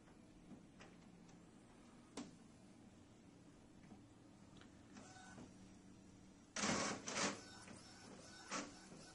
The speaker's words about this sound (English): So we're printing out the guy's score sheet right now.